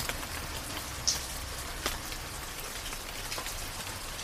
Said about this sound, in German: Sanfter bis kräftiger Regen, perfekt geeignet zum Einschlafen, für die Meditation oder für Wellnessbereiche.